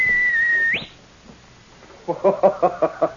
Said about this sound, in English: Even as Sergeant Preston whistled for King, the sharp whistle that had always been a signal between the two of them, the Mountie wondered and hoped.